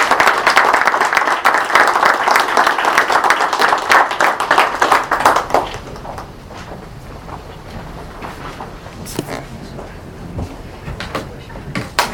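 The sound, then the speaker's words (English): A crowd at a Bertie County meeting applauds loudly with dense, rapid clapping for about five seconds, then it fades to scattered claps and murmur with a few sharp, isolated sounds. “And again, a round of applause for all of you.”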